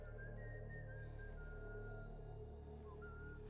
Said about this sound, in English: Well, she's... Well, a girl. And she whistles.